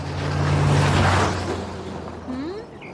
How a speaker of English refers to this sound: Oh, here. Here comes the car.